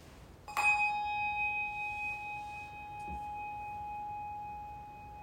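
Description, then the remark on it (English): A single bell is struck once to begin a service and rings out clearly, its bright, steady tone slowly fading over several seconds of otherwise quiet. “We'll begin our service with the ringing of a bell and a little quiet.”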